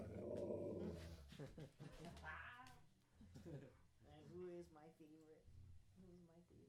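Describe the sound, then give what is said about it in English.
A puppy growls low and rough, the chesty rumble rising into higher, whiny vocal bursts, with voices murmuring in the background. “Such a chesty noise.”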